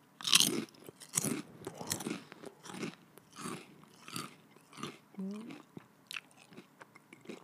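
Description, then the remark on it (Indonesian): Someone eating crunchy food, with repeated loud crisp bites and chewing crunches in an irregular rhythm, plus a few mouthy vocal sounds between bites. “Gue sambil makan ya.”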